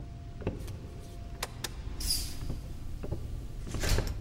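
door being shut

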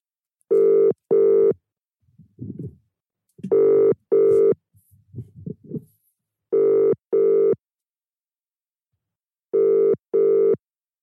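outgoing phone call ringing

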